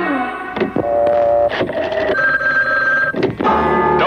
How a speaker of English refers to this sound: Again, we're calling in Fort Lauderdale. We have dialed the number waiting for the first ring right now. We have kind of a faint ring. Oh, there it is.